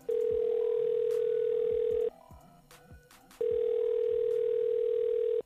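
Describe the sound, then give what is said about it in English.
A steady, loud telephone tone sounds in two long bursts of about two seconds each, separated by a short quiet pause, as the hosts of the Miguel Show on Hot 101.5 dial a call, with faint background clicks and no talking. “so while we are dialing, just let me remind you that we, Miguel and I, will do all the talking”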